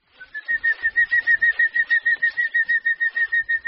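A hummingbird on the tropical island of Trinidad buzzes past with a steady, high-pitched whirring hum that pulses rapidly, about six beats a second, holding fairly loud throughout with no voices.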